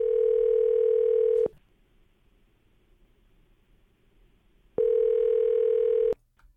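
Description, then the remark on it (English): An outgoing telephone call's ringback tone purrs in two long steady bursts of about a second and a half each, separated by a few seconds of quiet line hiss, clear. “Hold on, buddy. Hold on. We're ringing. We're ringing.”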